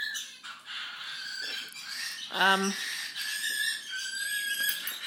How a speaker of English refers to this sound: Do excuse all the birds are going mad in here.